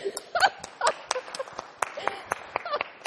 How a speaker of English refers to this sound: We all deserve a round. Okay, I'm the only one clapping. Come on, people.